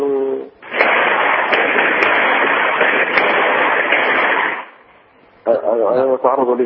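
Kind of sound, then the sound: impact, gunfire inside a house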